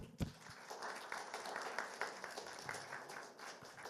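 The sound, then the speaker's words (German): Steady audience applause welcoming guest speakers at the Nacht der Jugend event, a dense wash of many hands clapping at a fairly even loudness throughout, with no voices over it. “Ein Applaus.”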